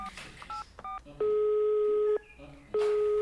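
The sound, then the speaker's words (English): A quick run of telephone keypad beeps, then the steady buzzing ringback tone of an outgoing call placed from a police station: one long ring, a short pause, and a second ring starting, loud. “Come on, Amina. Answer the phone.”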